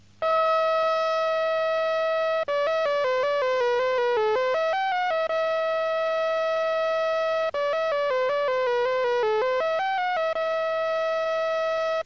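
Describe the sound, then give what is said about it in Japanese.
A simple electronic melody generated by a microcomputer using the simplest method, playing the theme of Rimsky-Korsakov's Scheherazade in a plain, buzzy square-wave tone, with steady held notes alternating with quick stepwise runs, at a constant loudness with no voices. “それじゃあですね、今ここにシエラザードの、リムスキー・コーサフ作曲のシエラザードのテーマ、これのいろんなバリエーションを、用意してきましたので、それではですね、まずそのマイコンを使って一番簡単なやり方ね、これを聞いてみてください。”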